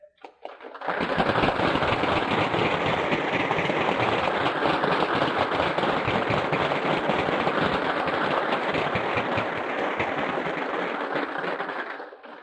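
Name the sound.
audience applause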